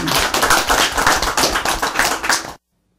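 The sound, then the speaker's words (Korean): An audience claps steadily for about two and a half seconds, a dense, loud patter of many hands that stops abruptly into silence. “예, 우리 박수 세요.”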